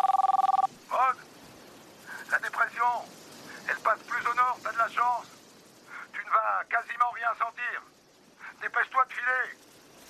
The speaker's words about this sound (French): Le lendemain, son téléphone satellite sonne à nouveau.